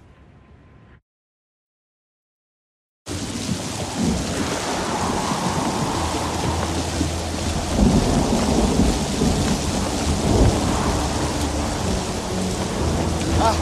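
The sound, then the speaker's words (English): A heavy, dangerous thunderstorm outdoors in a city erupts after a brief quiet: dense, steady rain roars while deep rolling thunder rumbles underneath, swelling loud throughout with no voices. “It's dangerous out here. Just leave me to the storm.”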